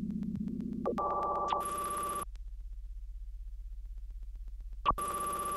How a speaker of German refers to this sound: Und dann säßen sie alle auf ihren Plätzen und warteten ab, ob bei ihnen das Telefon klingelt. Und bei manchen klingelt es dann.